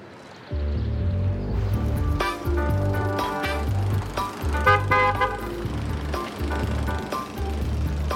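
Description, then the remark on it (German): A car horn blares again and again in loud, uneven bursts while an engine rumbles as the vehicle passes. “war da nicht gerade unser Auto?”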